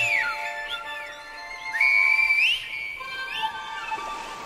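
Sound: silbo whistled language whistling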